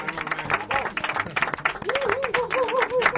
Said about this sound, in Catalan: Home, toca aplaudir, no? Perquè, escolta'm...